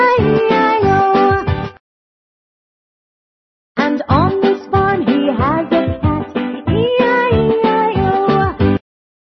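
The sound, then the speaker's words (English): A voice sings a string of loud, melodic meows, imitating a cat in a rhythmic, song-like pattern in the nursery song Old MacDonald Had a Farm, with a short silent pause before the sung meowing resumes. “A meow meow here and a meow meow there.”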